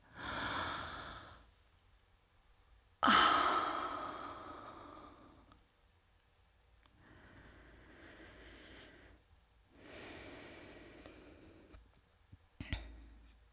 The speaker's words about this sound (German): Stille. Übrig bleibt ein erschöpftes Schnaufen und wir beide rutschen die Wand hinunter und sinken in der Dunkelheit zu Boden.